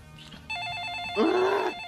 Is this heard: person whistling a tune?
no